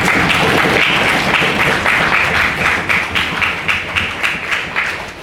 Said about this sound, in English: Can we have another round of applause for those who made the speech?